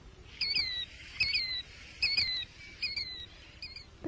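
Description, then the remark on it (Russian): A plover calls repeatedly, shrill two-part whistled notes in five bursts at a steady pace, clear over a faint low background hum, with no talking. “До свидания, птица крикливый Зуёк.”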